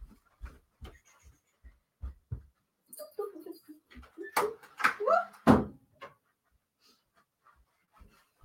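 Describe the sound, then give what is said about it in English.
A string of soft taps and knocks, then a burst of rattling and handling noise that ends in one solid, low thud of a door being shut, followed by quiet. “So I'll be right back as I shut the door.”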